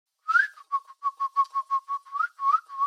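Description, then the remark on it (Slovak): A person imitates a little bird held in cupped hands at a girl's ear, with a quick series of about a dozen short, high whistled peeps in a steady rhythm, a few sliding upward, with no talking. “Prikladám dlane zvierajúce vtáčika k jej uchu a skláňam sa, aby som pridal aj pípanie.”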